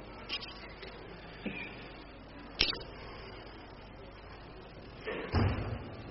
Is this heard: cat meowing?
no